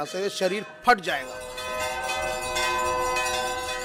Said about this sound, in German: Der ohrenbetäubende Rhythmus der Glocken erreicht seinen Höhepunkt.